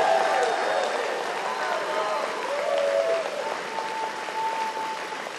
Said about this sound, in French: Et mon équipe, j'en ai vu plusieurs, là, ma merveilleuse équipe. Avec vous autres, oui, on peut les applaudir.